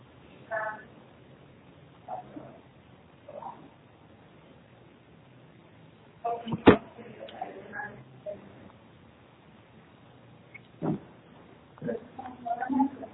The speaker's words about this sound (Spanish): Sí, estoy abriendo la puerta.